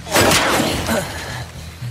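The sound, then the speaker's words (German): Two loud, sharp gunshots from a sniper rifle, the first a split second in and the second just under a second later, each leaving a short rumbling tail. No one speaks. “Dieser Scharfschütze ist ein Profi.”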